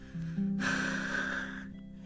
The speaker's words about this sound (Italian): Alita sul bimbo ha sicuramente freddo.